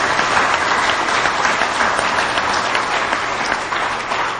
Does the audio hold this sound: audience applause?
yes